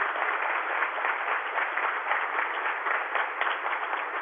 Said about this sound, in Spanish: Aquí está el equipo de Coldeportes. Le ruego ponerse de pie. Un aplauso a todo el equipo de Coldeportes.